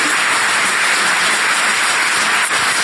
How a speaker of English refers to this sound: Wait, before you clap. Okay, clap, fine. Thank you.